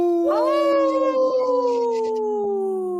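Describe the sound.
A person howls the word "no" like a wolf, a single long sustained wail that rises quickly then slowly glides downward over about three seconds, loud with rich harmonics.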